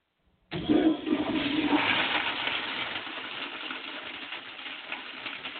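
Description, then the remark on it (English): A loud flushometer toilet flush bursts on abruptly with a forceful rushing roar of water, then settles into a steady, slightly quieter hiss that continues to the end without any voices. “I think that the flushometer may have busted the I don't know, let's see here, and it could have affected the maybe the flush was too loud.”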